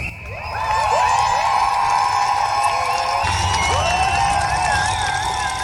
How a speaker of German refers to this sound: Mit Trillerpfeifen, Sirenen und Transparenten machten die Streikenden auf die Uhrzeit 15.19 Uhr aufmerksam. Ein symbolischer Zeitpunkt für die Gewerkschaften.